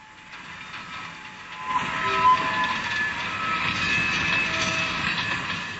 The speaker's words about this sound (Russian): Когда город остался далеко позади, и поезд набрал скорость, ему казалось, будто колеса вагона под его настроение отстукивают для него радостную мелодию.